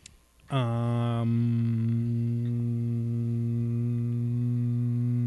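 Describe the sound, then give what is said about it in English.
A person hums one low, steady note that starts abruptly after a short pause and holds unbroken at the same pitch and loudness until the end. “And you've accomplished the record for the longest hum on Carl's Jr.”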